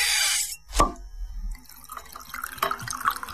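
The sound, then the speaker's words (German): Wine pours into a glass: a brief rush of liquid, a sharp plop, then a softer gurgling trickle that continues to the end, with no voices. “So klingt ein guter Tropfen. Weißwein, Rotwein oder Rosé.”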